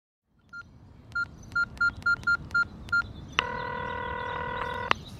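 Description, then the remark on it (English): A quick series of about eight electronic keypad tones as a cell phone number is dialed, then a single long, steady ringing tone, all over a low background hum. “You could try her cell phone. Yes, I'll do that.”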